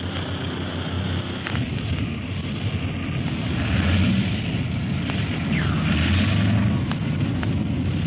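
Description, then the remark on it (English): A big airplane roars steadily as it comes in to land with its nose into strong wind, with deep rumbling, gusty noise and a few sharp knocks and bumps. No one speaks. “Harder to land this big ship than the old pursuit planes in a wind like this.”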